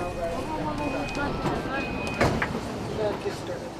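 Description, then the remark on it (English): Steady crowded train station bustle in downtown Tokyo during the morning rush, with murmuring commuter voices and footsteps, a brief high electronic tone, and a sliding door thudding open partway through. “The morning rush in downtown Tokyo.”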